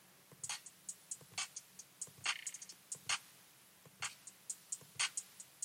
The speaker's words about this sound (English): I'm gonna leave the hi-hats running for now.